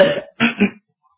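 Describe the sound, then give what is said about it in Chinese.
Zaixun clears his throat: a short gravelly rasp, then a two-part "ahem," followed by silence, as he steps two paces forward. No words are spoken. “后来还是载洵比较有点主见，他清了清嗓子往前走了2步。”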